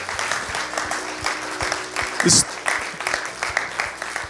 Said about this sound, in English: Let's give a huge celebration, a huge round of applause. Someone's made a decision tonight to give their life to Christ.